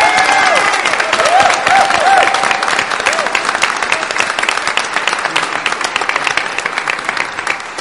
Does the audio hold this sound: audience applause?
yes